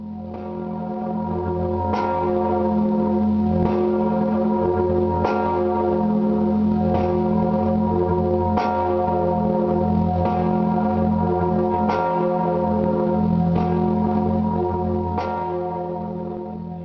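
cathedral church bells ringing

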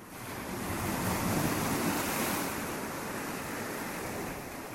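sea waves

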